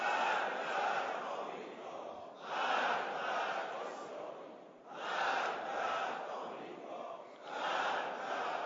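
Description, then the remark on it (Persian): A large crowd of the Iranian people chants the political slogans 'Death to America, death to Israel' in unison, loud shouted phrases rising in four rhythmic surges about every two and a half seconds, with a roar of voices filling the gaps. “این وجه شعار و صدای رسا و فریاد بلند ملت ایران است که میگویند مرگ بر امریکا، مرگ بر اسرائیل.”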